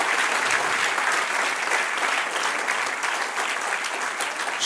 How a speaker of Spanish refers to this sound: Estamos completos en Cristo. Dice la palabra. Un aplauso, Señor.